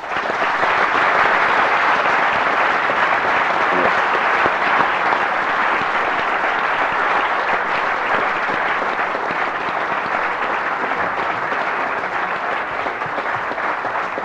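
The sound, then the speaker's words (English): A large audience applauds the speakers at an event, a dense, sustained wash of many hands clapping at a constant loud level with no voices standing out. “I hope you join in the festivities, and will join in with me now to give some applause to our speakers today.”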